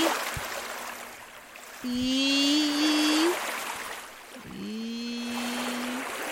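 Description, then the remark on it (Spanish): Two long, moaning whale calls in a video game rise and hold steady, each with a high whistling overtone, over a constant rushing watery background; no one speaks. “Esperas a que aparezca la ballena y.”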